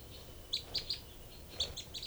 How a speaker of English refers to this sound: Both birds here. 3 and 5. No, that's 3 and 4, the female. 3 and 4, then 3 and 5 responding.